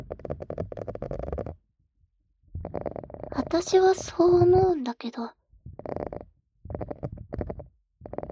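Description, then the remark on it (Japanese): A loud, warbling bubbly gurgle wells up for about a second and a half, its pitch sliding and wobbling, framed by a woman speaking quietly before and after. “このさ、ボコ、ボコっていう、なんとも言えない音が心地いい。なんとなく、海に潜ってる感じがする。”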